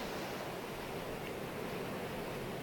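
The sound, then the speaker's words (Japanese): A continuous, rushing roar of ocean surf as waves surge one after another and break against towering rocks on a coast in winter, with a cold, strong sea wind; dense and steady without distinct individual crashes, at a moderate level with no voices present. “波が次々と押し寄せて、そそり立つ岩にぶち当たって砕け散っている。”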